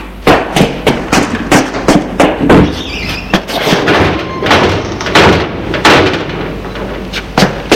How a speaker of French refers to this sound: Des pas et les rideaux de fer qui se montent.